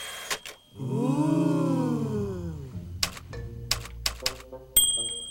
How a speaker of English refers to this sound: Turk hits a typewriter key. Oh! She does it again.